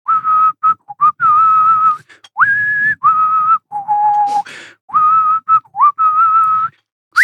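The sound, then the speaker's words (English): Someone whistles a bold, heroic film theme tune, sustained notes with rising swoops and short breaths between phrases, loud and clear with no talking. “I changed the mode of whistling.”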